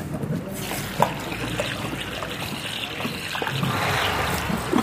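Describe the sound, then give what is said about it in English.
A thirsty horse drinks water at a stable, with steady watery slurping and splashing that swells slightly toward the end, plus a few sharp knocks along the way. “He was really thirsty. It was fun to watch him drink.”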